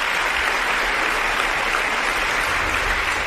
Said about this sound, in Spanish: Un aplauso largo, una ovación cerrada cuando Carlos Mazón subió al escenario para firmar la batería de medidas en materia de vivienda que el PP quiere aplicar en las comunidades en las que gobiernan. Lo siguen oyendo de fondo, ¿eh?